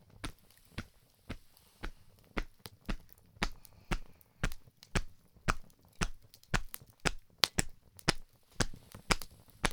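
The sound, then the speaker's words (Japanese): A campfire crackles steadily, with sharp dry pops and snaps arriving a couple of times per second over a soft low rumble, and no voices. “焚き火のいい音。”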